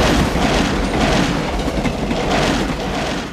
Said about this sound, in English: Now a train.